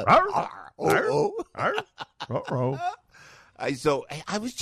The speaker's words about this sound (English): What are those dogs doing outside?